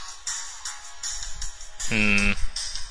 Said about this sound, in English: Uh-oh, it's your cell phone.